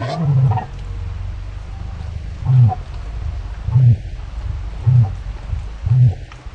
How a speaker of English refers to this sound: That's a recording of a cassowary made in Papua New Guinea. Mac says it vibrates coffee cups and makes your chest rumble.